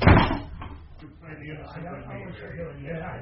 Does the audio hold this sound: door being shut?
yes